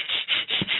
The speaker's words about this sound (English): And then for 8 times, you're going to breathe in and out of your nose as fast as you can. Fast as you can, but it's only going to be out of your nose, so it'll sound like this.